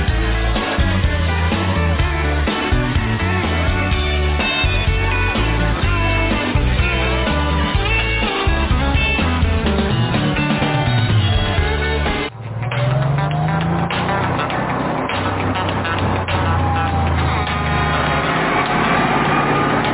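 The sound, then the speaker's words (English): A car engine is cranked up and runs loudly and steadily, with a dense rumble through the first half, then it shifts partway through into a rising, revving drone. No one speaks. “Crank it up. Let's get out of here.”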